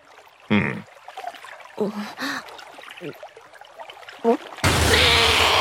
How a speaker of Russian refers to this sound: Ты что, вода же очень важна. Как можно ее выплевывать?